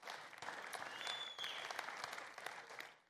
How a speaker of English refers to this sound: Come on. Come on, let's clap. Thank you, Lord.